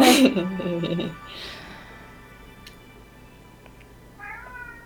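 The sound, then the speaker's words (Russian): A cat lets out a loud, drawn-out, high-pitched meow that fades after about a second, followed by quiet stillness and a short, fainter meow near the end. “Вы слышите этого пассажира? Ничего себе, пусть орёт.”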